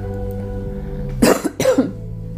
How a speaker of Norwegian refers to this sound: Og disse hostene, det kan komme fra din hals mens jeg hoster for deg, fordi det var blokkert og stopp på pust.